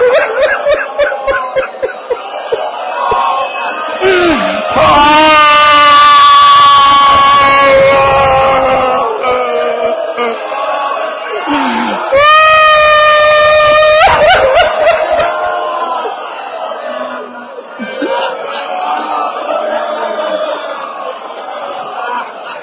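A crowd weeps and sobs loudly, many voices wailing together, swelling into two intense surges of cries before settling back into steady sobbing.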